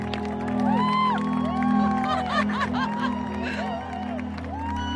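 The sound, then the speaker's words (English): An outdoor crowd in Times Square cheers and claps continuously, spontaneously breaking into applause, with scattered whoops and whistles rising above a dense wash of voices and a steady low city rumble. “Within the first 30 seconds, the crowd in Times Square spontaneously breaks into applause and real cheers.”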